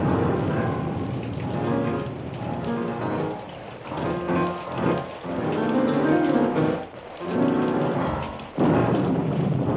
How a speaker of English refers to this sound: Lady Elaine Fairchild hears some thunder in the neighborhood of make-believe